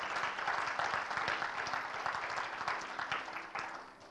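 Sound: audience clapping hands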